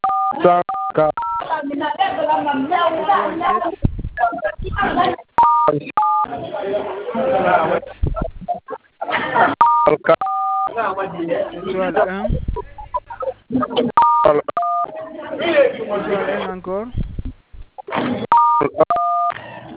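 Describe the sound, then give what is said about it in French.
Short bursts of telephone keypad tones recur every few seconds, each a quick cluster of beeps, as a code is dialed, between stretches of a voice talking over a thin, phone-quality line. “Vous terminez par étoile 1 guise, ok, d'accord.”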